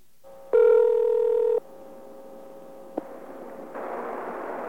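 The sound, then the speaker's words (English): A steady telephone dial tone hums throughout, interrupted near the start by a loud, sustained touch-tone beep as *69 is dialed to call back a payphone, followed later by a sharp click and a rise of line hiss. No one speaks. “This is what happened when we tried calling back that payphone using *69.”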